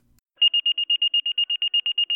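A rapid string of high, piercing electronic beeps, about fourteen evenly spaced pulses at a steady pitch, loud: fire station dispatch alert tones sounding on their own with no voices.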